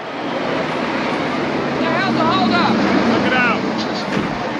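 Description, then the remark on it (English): A steady, loud rumble of a convoy of U.S. troop transport trucks rolling along together down a narrow street, with indistinct voices calling out over the droning traffic noise partway through. “Later, a convoy of U.S. troop transport trucks winds down a narrow street.”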